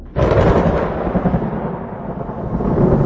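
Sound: distant thunder rumbling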